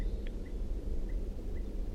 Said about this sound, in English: And I think I hear a crossbill. I think I did hear a crossbill calling.